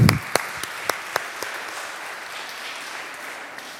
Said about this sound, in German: Dankeschön. Ihr dürft nochmal Platz nehmen. Nochmal einen Applaus bitte.